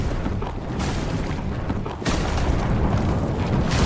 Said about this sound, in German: Der Stein löst sich. Man hört ihn knarzen und knirschen. Und genauso knarzt und knirscht auch Grindol. Der Stein rollt den Berg hinab.